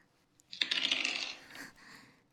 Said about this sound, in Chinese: 这个时候你居然还有心思掷骰子？